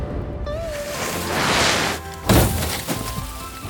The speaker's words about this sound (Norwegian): Alvin krasjer inn i bilen.